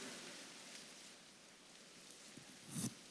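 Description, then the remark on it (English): Many people tear paper cards into at least six pieces at once, making a dense, continuous rustling crackle like soft rain, heard faintly, with one brief louder rip near the end. “Now, take the card, and we're going to rip it into at least six pieces.”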